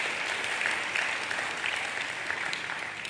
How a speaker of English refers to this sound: Why don't we give God a hand clap of praise for this man of God and his wife